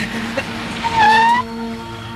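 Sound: car driving up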